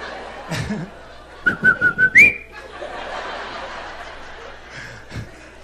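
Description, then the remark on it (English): A person whistles an imitation of the call of the coquí, a tiny frog native to Puerto Rico. It is a stuttering run of short notes ending in a rising chirp, fairly loud, with chuckling around it. “We got a stuttering coquille.”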